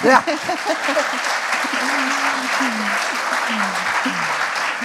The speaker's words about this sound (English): Only if when you do it together, something can become whole again. And let me just, you can clap for that.